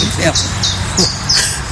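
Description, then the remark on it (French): A common chiffchaff sings a quick run of repeated high, sharp notes in an uneven see-saw rhythm, clear, over a low steady background hum. “alors pouillot vélos c'est le nom français officiel, mais on a un petit nom en français qui parle aussi.”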